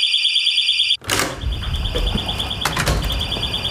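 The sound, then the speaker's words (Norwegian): A shrill fire alarm rings steadily in rapid pulses. Around a second in, a door bangs open and rumbling, shuffling noise continues beneath the piercing tone. “Og der gikk brannalarmen, ja.”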